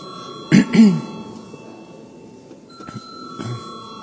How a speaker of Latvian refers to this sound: Paldies, lūdzu zvanu.